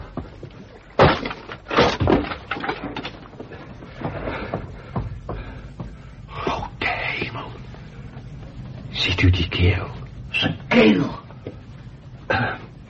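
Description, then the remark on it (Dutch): A door is kicked in: a series of heavy, irregular thuds and cracking impacts, with shuffling, scraping and brief vocal grunts between the blows. “Ik trap die deur in.”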